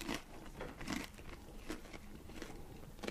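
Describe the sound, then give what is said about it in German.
Crisp, crunchy bites into an oven-baked pizza burger, crispy on both sides, a handful of sharp crackling bursts followed by softer chewing crunches, with no talking. “Ja, aber es knuspert schön, von beiden Seiten.”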